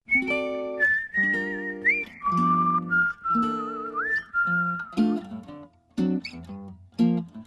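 A man whistles a smooth, wavering melody up front, long sustained notes gliding between pitches over a steady, bouncy band accompaniment of piano and rhythm instruments.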